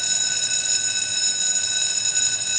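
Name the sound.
school bell ringing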